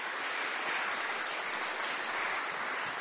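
An audience claps steadily, a dense, even wash of many hands with no gaps and no voices, holding a constant moderate loudness throughout.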